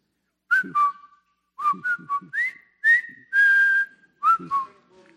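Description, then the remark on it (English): A person whistles a short, jaunty military march melody, with crisp rising and falling notes, a few quick repeated phrases and one long held note, no talking. “Because I'm not a very good whistler, but can you guess what this is?”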